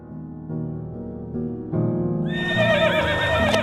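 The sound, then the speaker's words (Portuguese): A horse neighs loudly, a low throaty start building into a bright, shrill, quavering whinny that holds to the end, with no talking. “Desculpa, gente, mas os cavalos estão ficando cansados.”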